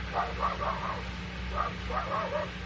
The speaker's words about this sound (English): That dog is barking the same way he barked. It was the same dog outside the cell. What is you talking about? The thing I see. That dog barked at it just like that. That the same barking dog. Who that dog belonged to? Where he come from?